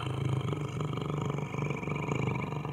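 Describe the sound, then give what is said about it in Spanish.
A tiger lets out a deep, rumbling roar that growls steadily for a few seconds, loud, with no one speaking over it. “Un tigre estaba ahí, enseñando sus dientes afilados como la hoja de un cuchillo.”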